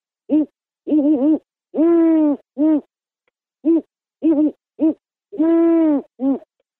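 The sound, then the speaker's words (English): A person imitates a great horned owl, giving a rhythmic series of deep hoots in two phrases: short hoots leading into longer, drawn-out ones, clear with no other sound. “And then I can do the great horned owl.”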